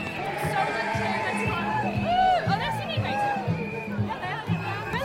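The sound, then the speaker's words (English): A dense crowd lining the streets roars steadily, cheering with rising and falling whoops and hollers arcing above the babble of many voices, loud and continuous throughout. “The audience, the crowds lining the streets are just cheering and whooping and hollering in a whole spirit of love and acceptance.”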